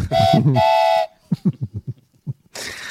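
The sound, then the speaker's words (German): A loud two-part train whistle blast opens, followed by a quick run of rhythmic chugging beats, then a burst of hissing steam at the end. “Wahnsinn, mal, wo halten wir denn da heute an? Haben wir einen neuen Halt?”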